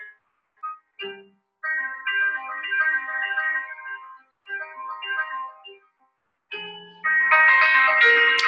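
A gentle piano melody plays as a phone alarm through a small phone speaker, sounding thin and tinny, in short phrases separated by brief pauses before swelling into a louder, fuller passage at the end.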